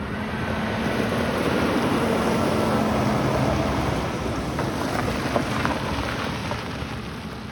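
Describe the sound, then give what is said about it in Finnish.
A combine harvests a corn field while tractors haul corn in trailers to a farm: a steady, heavy machine drone with a low engine hum fills the whole recording, mixed with broad rushing noise of crop being processed and wind, with no one talking. “Maissipellolla puidaan. Ja traktorit kuljettavat kärryissään maissia vähän matkan päähän maatilalle.”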